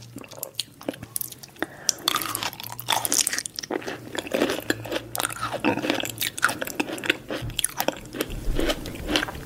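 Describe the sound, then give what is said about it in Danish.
Chewing and crunching of chips, with rapid irregular crackly bites and wet mouth noises continuing steadily throughout, no talking. “Nogle mundlyde, som vi vælger at kalde dem, kunne lyde sådan her.”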